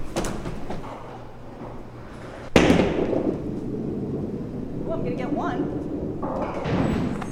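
A duckpin bowling ball rumbles steadily down the lane, then cracks into the pins with a sharp, loud clatter that leaves a scattered rattling tail, over a background of crowd chatter.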